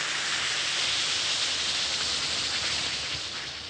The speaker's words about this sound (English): Drop one or two Alka-Seltzer tablets into a glass of water like this. Listen to it fizz.